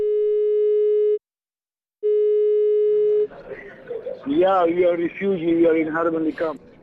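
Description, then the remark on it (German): A phone busy signal on an unanswered call to a man's mobile phone sounds twice as long, steady beeps separated by a short pause, then cuts off as a man begins speaking. “Idris ist auf seinem Handy nicht zu erreichen.”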